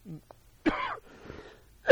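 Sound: cough and throat clearing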